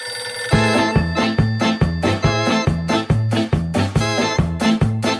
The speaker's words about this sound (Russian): Зазвонил телефон на столе капитана.